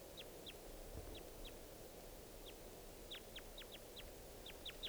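wild crossbill calls

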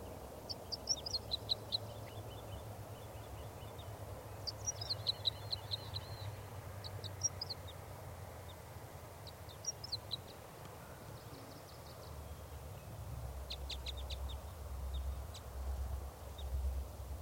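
wild bird singing

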